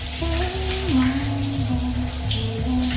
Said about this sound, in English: He cautiously opens the door. He tiptoes through a bathroom where a woman is showering.